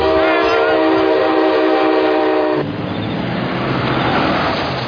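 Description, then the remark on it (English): A loud, sustained train horn blares for a couple of seconds, then gives way to the steady rumble and clatter of a train headed for Springfield, rolling along the rails. No one speaks. “Where's this train headed?”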